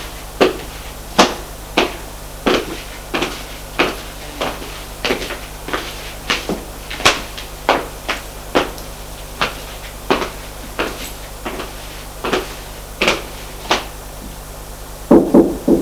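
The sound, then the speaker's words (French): Steady, sharp knocks on an office door repeat about twenty times at an even, unhurried pace, each one crisp, with no voices and only a faint background hum. “Frappe à la porte du bureau.”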